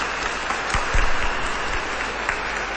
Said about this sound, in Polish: Już teraz na początku także dla ojców i braci franciszkanów gorące oklaski. Niech one będą wyrazem naszej wdzięczności, że dzisiaj możemy spotkać się w tym miejscu. Gorące oklaski.